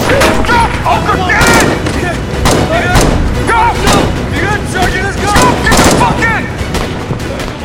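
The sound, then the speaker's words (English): Loud gunfire crackles in irregular bursts, fired from a departing vehicle as a burning truck is left behind, sharp shots ringing out every second or so over a constant rumble, while voices shout beneath the shooting. “As the vehicle departs, leaving the burning truck in its wake, Ochre continues to fire.”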